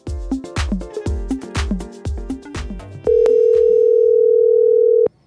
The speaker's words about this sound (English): So in keeping with the This Is Your Life vibe for this episode, seems like I've got a phone call to make.